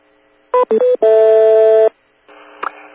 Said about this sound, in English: NO2NO, Fred, just reported to us that the four tones that we have in between our transmissions are just the right tones that trigger his Garmin GPS receiver. So where did you get those four tones?